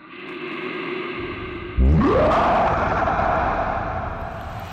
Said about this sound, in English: I retreat backwards, feeling my confidence wane as the bear seeks the moonlight, steps into the center of the ring, and begins its own transformation with an almighty roar.